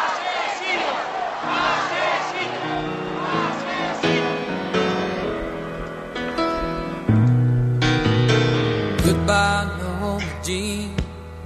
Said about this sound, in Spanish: las miles y miles de personas que aquí de nuevo empiezan a gritar asesinos, asesinos, les escuchamos.